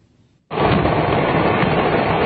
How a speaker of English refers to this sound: The initial explosion came without warning. Witnesses say the first fireworks set off a chain reaction. In all, at least six major blasts that leveled the San Pablito outdoor flea market.